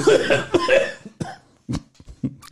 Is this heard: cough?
yes